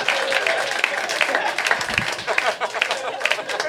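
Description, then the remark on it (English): An audience applauds a Kyle Kinane joke about his tombstone steadily, a dense wash of many hands clapping at a fairly loud, even level throughout, with faint crowd murmur mixed in. “I think you were quick to applaud at that.”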